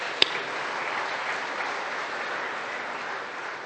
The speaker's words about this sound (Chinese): 什么叫 VSOB 呢？Very special old people， 特别尊贵的长者，我们给这些年长的拍手。